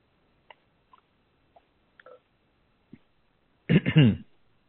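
Someone sips water: a series of faint, irregularly spaced wet clicks and gulps over a few seconds, followed by a short, louder voiced sound at the end.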